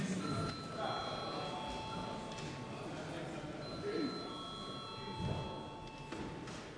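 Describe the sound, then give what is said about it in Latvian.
A steady electronic bell rings in parliament to call for registration, with sustained, layered tones for several seconds over faint background murmur and shuffling. “Tādā gadījumā lūdzu zvanu reģistrācijai.”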